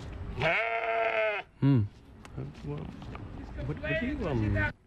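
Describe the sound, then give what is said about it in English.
Several goats bleat loudly, with long wavering cries overlapping one another across a few seconds, and a short sharper bleat in between. “Look at all these goats.”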